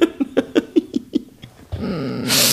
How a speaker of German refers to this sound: Musste husten vor Ekel, Entschuldigung.